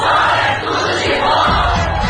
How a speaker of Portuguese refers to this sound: Xiii, mas ao menos dá pra ouvir o grito da galera.